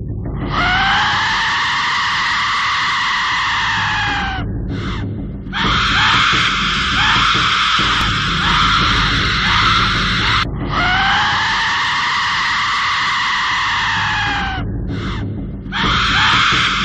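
An Aztec death whistle lets out long, piercing, scream-like shrieks, loud and harsh with a rough, noisy edge, in about three sustained blasts separated by short breaks. No one speaks over it.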